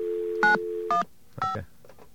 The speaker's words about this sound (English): All right, let's get a dial tone.